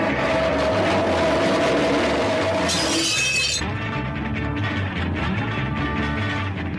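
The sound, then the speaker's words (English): A metal folding chair is dragged along the concrete floor of a recording studio in a dense, grinding metallic scrape that drags on continuously, then a bright crash as a glass is broken with it near the middle before the harsh scraping resumes and continues to the end. “drags a metal folding chair along the concrete floor of the recording studio and then breaks a glass with it.”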